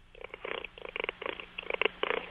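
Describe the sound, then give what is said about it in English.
A person imitates a cat's purr with their voice over the phone: a steady series of rough, rattling pulses in short bursts, slightly muffled and thin like sound over a phone line. “I've always been curious as to the nature of cats and their ability to purr, and I seem to have a similar ability, which is very strange.”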